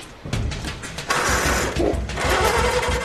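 A tractor engine cranks and sputters without catching, a loud, rough mechanical churning with a rapid rhythmic chugging that keeps going for several seconds.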